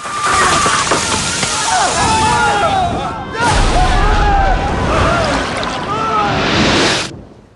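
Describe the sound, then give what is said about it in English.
A loud magical water blast shoots out of Oberon's staff in a library, surging and sloshing for several seconds and freezing a lava creature where it stands, with a heavy low boom hitting midway before the rushing spray cuts off abruptly. “Water shoots out of Oberon's staff, freezing the creature where it stands.”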